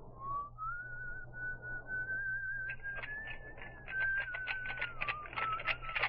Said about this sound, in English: I closed the door of the Admiral's home behind me. An old song was running through my mind. I whistled it.